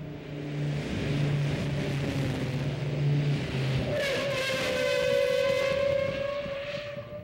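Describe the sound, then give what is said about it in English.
A car with bias-ply tires slows to a stop: a steady low engine drone gives way to a loud, sustained, high-pitched brake squeal with ringing overtones that bends slightly in pitch and holds to the end. No one speaks. “Seems like these brakes get better with every stop, and again, I think we're putting heat into the pads.”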